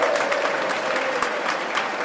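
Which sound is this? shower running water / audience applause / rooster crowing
audience applause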